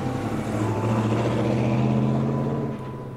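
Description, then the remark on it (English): A truck loaded with full-grown chickens drones steadily with a low, humming rumble as it is driven away from a farm, then drops off slightly near the end as it pulls away. No one speaks. “So I help my father pack the birds back onto the crates, and the red-bearded man returns to our farm, and we load the birds, full grown now, into his truck. The man drives away.”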